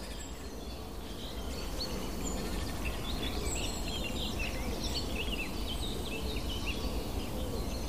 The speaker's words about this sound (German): Die Meisen schimpfen. Kohlmeisen hier vor mir.